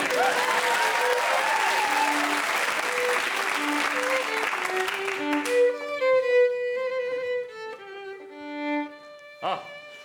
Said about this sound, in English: So, ladies and gentlemen, would you please give a thunderous round of applause?